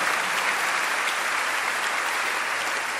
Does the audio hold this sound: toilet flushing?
no